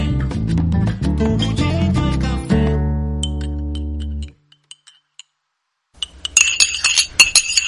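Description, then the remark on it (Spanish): A musical passage ends on a sustained tone, then a few faint, scattered taps give way to a louder burst of a coffee cup clinking against its saucer as someone takes a quick sip of coffee. “Así que me voy a dar este sorbito rápido, pero amargo y siempre, siempre necesario.”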